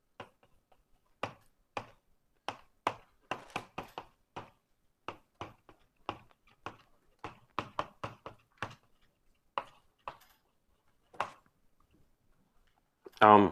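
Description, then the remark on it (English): Chalk taps and scrapes against a board as definitions from the 1935 EPR paper are written out, an irregular run of sharp clicks and knocks, some in quick clusters, with a brief burst of voice right at the end. “Okay, so I have a lot of writing to do now.”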